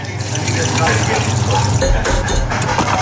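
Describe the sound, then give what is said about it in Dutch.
Loud crunching and chewing, a dense crackly texture with sharper bites near the end, as six crispy McDonald's Spicy Chicken McNuggets are eaten. No one speaks. “Je luisterde naar 6 knapperige Spicy Chicken McNuggets.”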